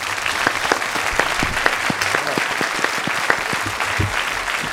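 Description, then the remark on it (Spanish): Steady applause from a group of people welcoming two guests from the Valencia company Sucesores de Leonardo García, a dense, continuous patter of many hands clapping at even loudness for several seconds, with no one speaking over it. “Un aplauso para ellos.”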